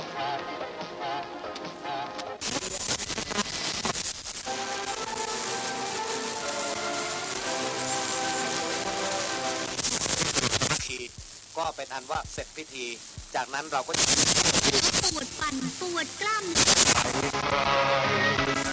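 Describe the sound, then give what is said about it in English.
A medium wave radio dial is tuned across a crowded band in Bangkok, Thailand. Loud bursts of hissing static alternate with brief snatches of local stations, music and voices, under a thin, steady high whistle. “Right, well, we've come inside now, away from the traffic, and connected up a radio in front of us. And if I just switch it on and scan the dial...”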